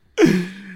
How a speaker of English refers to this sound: Oh, bless you.